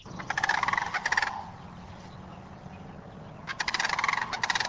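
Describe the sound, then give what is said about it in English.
A wild turkey gobbles twice at a nature preserve where fields are being converted to prairie, each call a quick rattling burst about a second long, separated by a few seconds of quiet outdoor hiss. No one speaks. “Bluebirds, wild turkeys, and noisy sandhill cranes were also seen and heard at the site today.”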